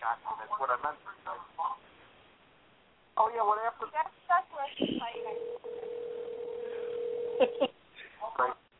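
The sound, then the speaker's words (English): A telephone call connecting: a steady, low-pitched tone hums for a couple of seconds, ending with a few clicks, with muffled phone-line voices talking before and after. “Did you hear? The phone call was starting.”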